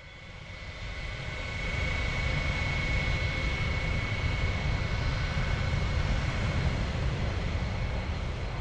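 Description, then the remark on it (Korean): A steady, loud airplane engine drone in flight, building up over the first second and then holding a constant roar with a faint high whine running through it. Kim Jong Il's private airplane No. 216, flying from Moscow to Pyongyang. “후지모도 일행은 그 비행기를 타고 함께 평양으로 돌아온다.”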